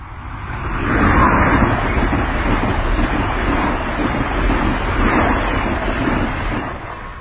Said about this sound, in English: And, you know, that sounds like a metro liner coming.